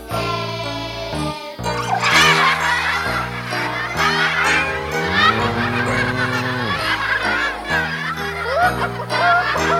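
Busy hen clucking and cackling, loud, over a steady backing of music that runs the whole time.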